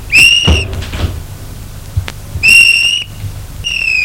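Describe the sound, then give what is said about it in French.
A woman closes a door with a dull low thud, followed by a couple of softer knocks. Three bursts of a high, steady squeal or whistle-like tone sound around them. No one speaks. “Et elle referme la porte.”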